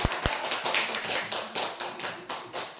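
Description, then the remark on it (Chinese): An audience applauds steadily for about three seconds, a dense wash of many hands clapping, opened by a couple of sharp, louder claps. No one speaks. “好， 鼓掌吧。”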